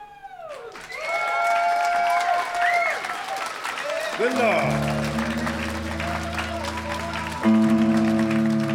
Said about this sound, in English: That's right, that's right. They're clapping